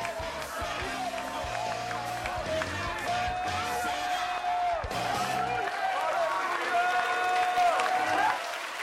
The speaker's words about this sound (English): Well, clap your hands to the Lord. Isn't God good? Hallelujah. Amen.